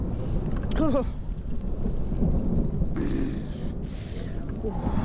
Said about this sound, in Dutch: Oh. Oei, oei, oei. Ik kan niet tegen de bliksem.